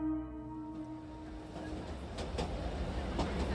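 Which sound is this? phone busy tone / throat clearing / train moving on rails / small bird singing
train moving on rails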